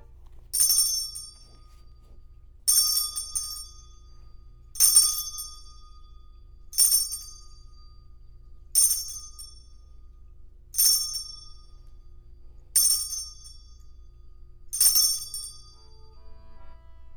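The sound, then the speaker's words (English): A bright bell chime rings eight times at a steady, even pace, each strike sharp and ringing briefly before fading, with no voices over it. “I think you're up with the chime.”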